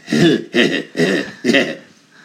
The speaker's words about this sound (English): You need to get that cough checked out here.